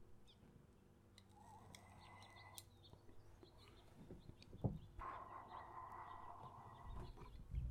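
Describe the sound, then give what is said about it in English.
Quiet bird chirping and calling in the background, with a few sustained tonal calls toward the end and a brief knock partway through; no one speaks. “The bird's a nice touch.”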